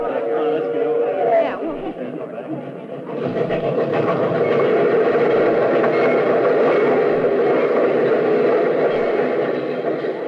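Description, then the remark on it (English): Train number 31 rolls into a station on track 3 with a steady, loud mechanical rumble and rattle that swells after a few seconds and holds, while murmuring voices mix in beneath it. “I don't see anybody in uniform on that train.”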